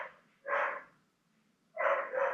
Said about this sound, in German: Jetzt bellt der Hund gerade im Hintergrund. Keine Ahnung, ob du sie hörst, aber Mamas Hund ist ein bisschen.